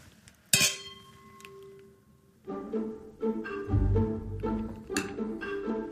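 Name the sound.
wine glasses clinking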